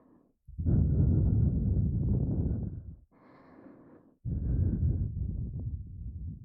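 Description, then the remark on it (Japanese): Soft breaths blown right into the other ear: two long airy exhales with a quieter, thinner puff between them, intimate and breathy with no talking. “ほら、こっちも吐息だけでビクビクしちゃう。”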